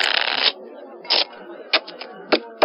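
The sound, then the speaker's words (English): A single deck of playing cards being shuffled: a half-second riffle, followed by several short, crisp flutters and snaps at irregular intervals, fairly loud with no talking. “Please wait while I shuffle the cards.”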